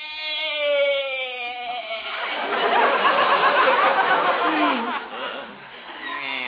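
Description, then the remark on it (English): A goat named Arthur bleats, a wavering, quavering cry that breaks into a raspy, noisy stretch before a shorter bleat trails off at the end. “Sure bleated a bibful, Arthur.”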